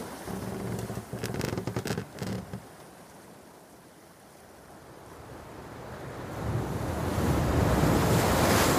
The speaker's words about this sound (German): Etwas weiter östlich rudern 5 Boote im Konvoi durch die kabbelige See.